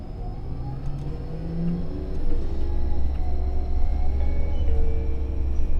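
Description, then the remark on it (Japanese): A bus engine rumbles steadily and gradually grows louder as the bus pulls away and accelerates, with low drone and tonal whine rising, heard inside the bus. “車します。お捕まりください。危険ですので、車内の移動はおやめください。”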